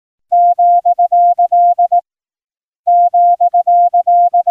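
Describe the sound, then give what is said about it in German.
A single steady tone keys out a new Morse code character, the gender asterisk introduced by the Geneva telecommunications authority, in quick dots and dashes, one burst of characters, a short silence, then the same pattern repeating, clear with no voices. “der Bundesrepublik Deutschland führte die Genfer Fernmeldebehörde nun abermals ein neues Morsezeichen ein, um künftig der Welt die Möglichkeiten einer gendergerechten Telegrafiesprache bereitzustellen.”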